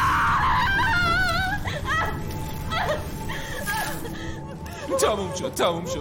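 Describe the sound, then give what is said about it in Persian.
A person screams in pain as a hand is taken off their wound, strained screams with a wavering pitch, breaking into shorter gasping cries and groans over a steady low background rumble. “صدای جیغ اومد.”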